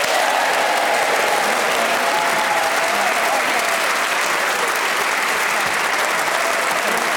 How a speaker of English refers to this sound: But tonight's winner, a huge round of applause, please, for Zoe Lyons.